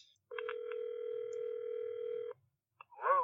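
A steady electronic telephone ring tone sounds for about two seconds, clear, then cuts off; after a short pause and a faint click, a voice answers. It is a call from the church to a couple's home phone.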